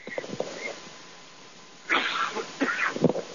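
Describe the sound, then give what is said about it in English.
A person with a frog in their throat clears it with a burst of rough, harsh coughing, loud, in a couple of short guttural bursts after some quieter breathy sounds, holding the microphone away. “Excuse me, I got a little frog in my throat.”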